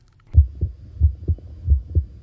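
A human heartbeat thumps in low, muffled pairs, lub-dub, three double beats in steady rhythm, fairly loud with no voices.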